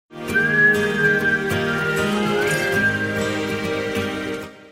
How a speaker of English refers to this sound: I like the end, like that whistling.